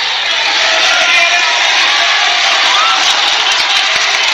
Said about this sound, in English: Crowd's going wild. They want names.